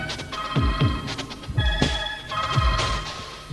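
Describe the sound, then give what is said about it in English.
A telephone rings in repeated bright electronic bursts, steady and fairly loud, with low thumping knocks underneath each cycle and no one speaking. “No, don't get violent with the phone.”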